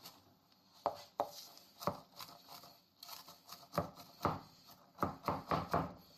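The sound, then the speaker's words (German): A dull knife chops basil on a board in a dozen or so irregular knocks, some spaced apart and others in quick clusters, each a short crunchy thud. No one speaks. “Man merkt, das Messer ist überhaupt nicht scharf.”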